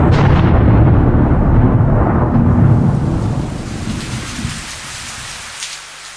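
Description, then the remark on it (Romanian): Steady heavy rain with a deep rumble of thunder rolling through the first few seconds, then fading to a softer patter of rain on its own. “Tata, de ce plouă?”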